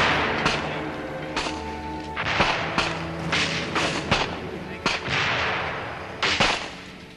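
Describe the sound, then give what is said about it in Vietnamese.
Repeated booming blasts and sharp cracks of artillery shelling and gunfire during the attack on the Hoài Đức district, irregular and overlapping, with a constant rumbling background; a faint voice may murmur underneath. “Bây giờ còng quân dồn tất cả nỗ lực để dứt điểm Hoài Đức, chi khu bị tấn công và pháo kích liên tục.”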